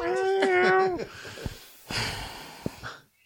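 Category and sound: animal, cat meowing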